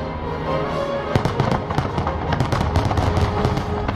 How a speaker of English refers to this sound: And I was watching the fireworks, and I felt something.